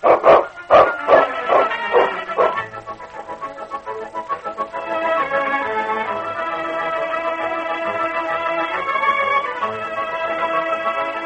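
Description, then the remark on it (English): A dog named King barks loudly several times in quick succession in the radio drama Challenge of the Yukon, the sharp barks giving way to a long, steady, sustained tonal sound that carries on to the end. “That rotten dog.”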